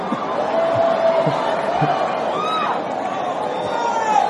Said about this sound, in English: You screaming like that. Come on up here. You just busy screaming. Not you, not you. I heard a lady screaming over here.